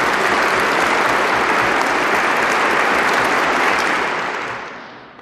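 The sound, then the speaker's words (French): Sustained applause from an audience at a prize ceremony for standing laureates, including historian Jérôme Grondeux, a dense wash of many hands clapping at steady volume for several seconds before tapering off toward the end. No one speaks over it. “Je demande à ces lauréats de bien vouloir se lever afin que nous puissions les applaudir.”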